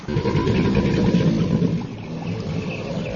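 A deep, throaty rumbling mating bellow of a male alligator, about 4 metres long, produced in its lungs, rolls on steadily over the water for several seconds, loud, with a slight easing toward the end and no voices.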